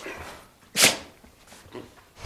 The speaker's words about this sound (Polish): Co wyście oszalały, psy? Oba psy oszalały?